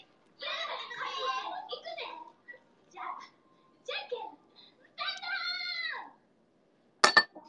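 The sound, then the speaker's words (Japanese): A voice imitates a cat with a series of drawn-out, wavering meows, fairly loud, separated by short pauses, followed by a sharp, brief burst near the end. “やってみよう、猫も。”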